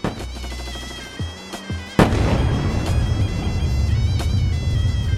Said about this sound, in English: Far away, we hear bombs falling down. Silence. We begin to hear shots far away.